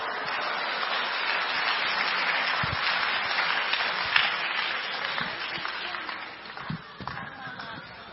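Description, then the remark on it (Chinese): A large crowd at a church service applauds steadily to welcome the day's speaker, a pastor, a dense wash of clapping that holds at an even level throughout, with a few sharper individual claps standing out toward the end. “好，接下来让我们用最热烈的掌声来欢迎我们今天的讲员”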